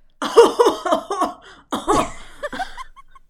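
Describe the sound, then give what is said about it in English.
A voice imitates a guttural, coughing laugh: a string of rough, breathy bursts that stutter rhythmically, pause briefly, then trail off into a few softer, higher-pitched huffs. Moderately loud. “No, I think that was a little bit too high-pitched, but it is like a coughing laugh.”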